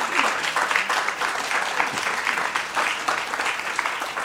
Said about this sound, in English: We have a round of applause for Chef.